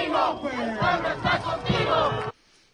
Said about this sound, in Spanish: Y bueno, este es el grito del pueblo apoyando a quien podría ser el próximo líder de esta nación, Marcelo Ebrard.